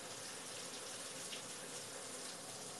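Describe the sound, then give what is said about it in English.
A steady, continuous hiss of shower water running and spraying, even and unbroken throughout, with no voices present. “Alright, after I get in the shower, I'm not gonna be able to see what you guys say.”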